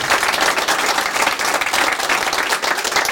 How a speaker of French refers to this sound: Merci, merci beaucoup. Beaucoup. Applaudissements pour Nolwenn Kermarek.